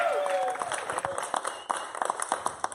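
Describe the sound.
An audience applauding, with a dense burst of many hands clapping that thins into scattered claps toward the end, while a few voices cheer underneath.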